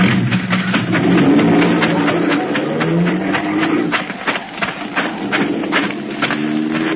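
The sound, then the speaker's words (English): A car engine rumbles and revs, its rapid, steady clatter continuing as a man grabs the car and drives it away in the desert, with no voices over it. “He was planted. Planted? Yeah, to grab our car and strand us in the middle of the desert.”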